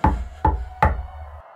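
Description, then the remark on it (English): Three firm knocks on a hollow wooden boat hull, evenly spaced, each with a short resonant ring before fading into quiet. No voices are present. “But then there was a knock.”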